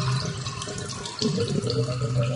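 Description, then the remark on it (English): Water runs and gurgles steadily down a drain for a couple of seconds, a bubbling, sloshing flow like a drain swallowing water, with a brief dip in the middle before the gurgling picks up again. “Is that what you hear from your drains?”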